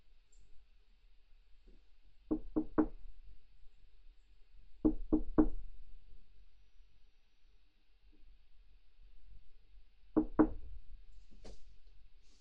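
Three separate bursts of sharp knocking on a door, each a quick run of three raps, spaced several seconds apart with quiet in between; fairly loud, no voices.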